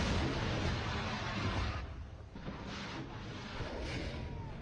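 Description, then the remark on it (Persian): A Navab air-defense missile launches from the IRGC Navy strategic warship Shahid Soleimani toward an enemy aircraft, with a loud, harsh roar that dominates for about two seconds, then fades into a rough, rushing rumble as it recedes. No one speaks. “شلیک موشک پدافندی نواب از ناو راهبردی شهید سلیمانی به سوی پرنده دشمن.”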